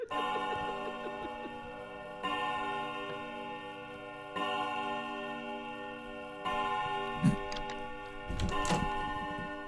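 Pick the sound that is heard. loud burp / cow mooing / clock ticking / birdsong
clock ticking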